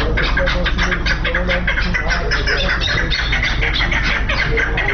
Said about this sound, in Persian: در نزدیکی مرغ بازار شهر شبرغان سرایی واقع است که لحظات بعد در این سرای کپ جنگی آغاز می‌شود. در اینجا صدای پرنده‌ها توجه رهگذران را به خود جلب می‌کند.